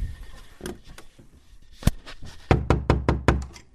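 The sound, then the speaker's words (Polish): Knocking on a door, loud: a single rap, a short pause, then a quick run of five firm knocks in steady rhythm, with faint shuffling beforehand and no voices. “Czekajcie, bo ktoś do mnie puka.”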